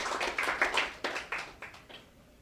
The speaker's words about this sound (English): It's nice to get applauded for trying to pick up a stranger on the street. I don't think that's ever happened to me before.